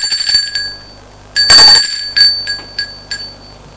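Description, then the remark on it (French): A doorbell at the front door of a friend's home rings in a rapid series of bright metallic chimes, one loud burst followed by several quicker, fading rings. The high, clear tones sound alone, with no talking. “Il sonne à la porte.”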